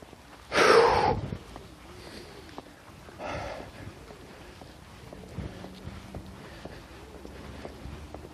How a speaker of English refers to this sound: Moving right along. Trying to move right along. Breathing hard.